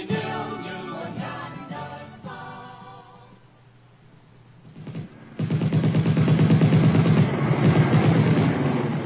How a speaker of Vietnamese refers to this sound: Tiếng súng nổ dồn dập ở đằng trước nơi chiếc Alpha dẫn đầu. Tiếng đạn đại liên 12 ly 7 xối vào không khí và rừng cây thành cái thứ âm thanh vô cùng kinh dị.